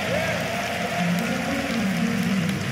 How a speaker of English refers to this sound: Oh, you ought to clap and shout off of that.